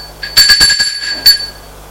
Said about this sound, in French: Sonne à la porte d'entrée.